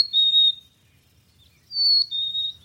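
A chickadee calls in the distance, heard on a hike among fir trees: clear, high whistled notes, one brief phrase, a pause, then a two-part whistle stepping down in pitch, over a faint low rumble.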